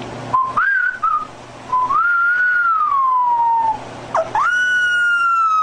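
A puppy that cannot howl yet lets out high, thin whistling whines in place of a howl as its owner tries to get it to howl: a short wavering call, then a long drawn-out note that slowly sinks, then another sustained whistle, loud.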